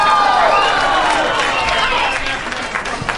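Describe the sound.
A live audience at a quiz show applauds and cheers loudly and steadily after an audience member helps a contestant with the answer, the movie Christmas with the Cranks; voices call out over the clapping throughout.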